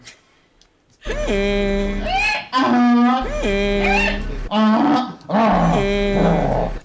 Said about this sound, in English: I'm going to play you that noise again from that person. And then the noise of an actual donkey.